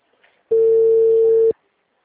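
A single steady telephone ringback tone sounds for about one second, loud, a flat electronic beep that starts and stops abruptly with near silence on either side.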